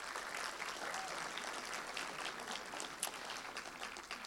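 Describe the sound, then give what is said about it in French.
Sustained audience applause at a film screening evening, welcoming a guest from the Azum Manga bookshop who presents the two films, a dense steady patter of many hands clapping at even loudness for several seconds, with no speech over it. “que vous pouvez applaudir chaleureusement”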